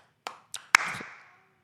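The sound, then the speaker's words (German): Three sharp hand claps at an uneven pace, the last one loudest and followed by a brief ringing tail that fades out. No voices are heard. “Hier kurz Applaus einfügen.”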